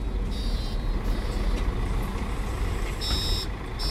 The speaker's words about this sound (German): Der Bus gleitet an nieselgrauen Geschäftsvierteln vorbei.